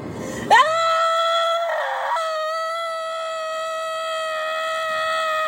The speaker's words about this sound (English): Screaming on the highway helps them too. Oh, I do love to do that!